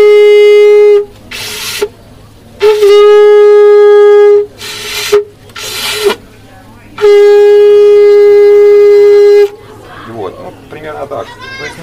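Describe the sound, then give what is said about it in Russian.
A conch shell blown like a trumpet, lips set as trumpeters do with a small gap: three long, steady, mid-pitched horn blasts, loud and buzzy, separated by short breathy rushes of air, then quieter rustling at the end. “И после того, как вы потрубили, вы споласкиваете раковину”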